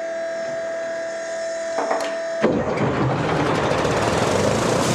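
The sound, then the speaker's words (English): A steady mechanical whine with a few clicks gives way, about halfway through, to a tank's mail-order engine suddenly catching on the second try and roaring into a loud, sustained, rumbling run with a plume of smoke. No one speaks. “raises his fists ecstatically as the engine roars into life with a plume of smoke.”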